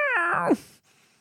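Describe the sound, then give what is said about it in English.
A person imitates a cat's meow once, a clear, drawn-out call that slides downward in pitch before cutting off into faint quiet. “Meow. Meow. Meow.”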